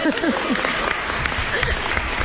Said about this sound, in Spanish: Perdón, el aplauso, sí.